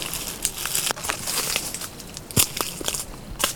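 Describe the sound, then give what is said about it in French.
Dead leaves crunch and crackle underfoot in a steady series of crisp steps among shrubs and limestone rocks at the foot of the Pyrenees, with a few sharper snaps standing out over a soft rustling background. “Les feuilles mortes.”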